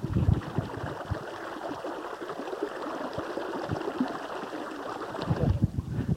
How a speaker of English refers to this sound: That is Cold Spring, a babbling brook, and very, very cold.